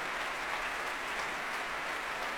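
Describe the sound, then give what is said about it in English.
A large audience at a BBC Symphony Orchestra concert under Semyon Bychkov at the Royal Albert Hall claps steadily and continuously, a dense wash of applause at a moderate level throughout, with a great cheer for the guest leader, Sergei Levitin, mixed in. “And that great cheer you just heard was for the guest leader, Sergei Levitin, in beautifully capricious mode.”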